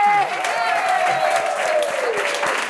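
Steady, loud applause from an audience, a dense wash of clapping with a whooping cheer or whistle gliding over it at the start.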